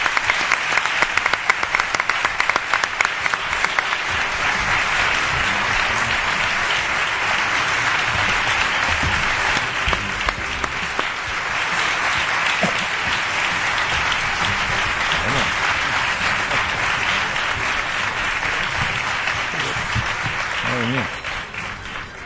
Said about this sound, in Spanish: Ovación de las de... De Curro. De las de Curro, ¿eh? Sí, totalmente. Ovación de las de Curro a don Juan Ignacio Zoido.